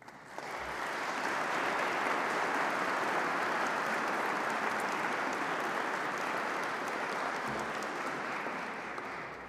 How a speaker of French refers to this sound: Les lauréats voudront bien se lever et je vous demande de les applaudir.